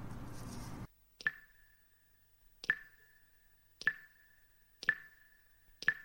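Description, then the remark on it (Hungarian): Water drips steadily after a summer rain shower, five distinct plinking drops falling about a second apart, each with a short ringing tone, clear against otherwise quiet surroundings after a brief opening sound. “Csepp, csepp, csepperek, villancsattan megered, zápor függöny zuhatag, fut a felhő, süt a nap, jött, ment, jót esett, főnek, fának jól esett.”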